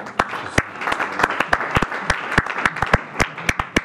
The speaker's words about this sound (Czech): No, to byl potlesk